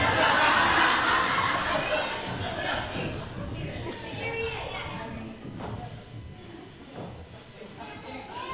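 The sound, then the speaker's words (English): A group of children cheers and yells hooray together after finding a hidden, duct-taped Jesus figure among the pews. The cheer is loudest in the first couple of seconds, then eases into a steady hubbub of overlapping excited voices. “They probably yelled hooray just like we did.”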